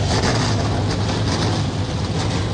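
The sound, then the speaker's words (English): A dense wall of 38 NASCAR Xfinity Series stock car engines starting up together on pit lane at Talladega Superspeedway for the United Rentals 250, a loud, steady, low roar with no break and no voices over it. “The sound we've been waiting for, the NASCAR Xfinity Series machines, 38 strong, come to life on the pit lane soon.”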